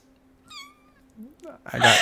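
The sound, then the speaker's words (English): Several high, thin kitten meows, played as a sound effect, come in quick succession, clear, followed by a burst of louder noisy sound at the end, with a low steady hum underneath. “I got kittens.”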